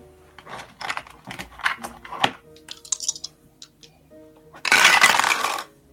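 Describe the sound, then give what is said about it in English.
Clicking and light rattling of dice being handled, then a dense, noisy clatter for about a second as they tumble across a table near the end, landing on a total of 7. “So 7 on the dice plus 2 for 8.”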